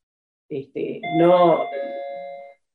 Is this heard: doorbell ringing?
yes